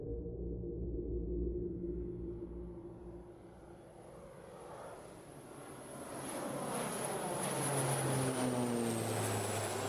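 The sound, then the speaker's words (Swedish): A propeller airplane's engine drones steadily, its low humming tones shifting in pitch as the roar swells again, as the plane lands on the ice at Akkastugan, a tourist cabin in Stora Sjöfjället National Park in Lapland, on 19 February 1951. No voices are heard. “Landar ett flygplan på isen vid Akkastugan.”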